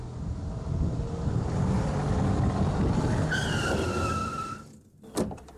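A car engine rumbles loudly along a street in a school zone at about 30, then tires let out a long, high-pitched screech as it brakes hard to a stop for a man who throws himself in front of it, followed by a brief thump.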